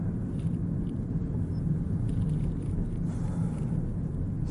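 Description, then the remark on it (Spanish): Steady low rumble of a car cabin while driving, a constant engine and road drone filling the low end with no pauses and no voices. “Volvemos otra vez a los podcasts desde el coche, como he dicho.”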